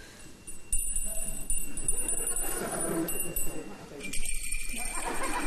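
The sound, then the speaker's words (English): Quiz contestants' electronic buzzers are tested one after another, each a sharp, high-pitched tone that starts abruptly and holds briefly, with a murmur of background noise around them. “Okay, can we just hear your buzzers, please?”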